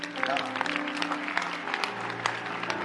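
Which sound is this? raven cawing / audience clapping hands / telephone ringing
audience clapping hands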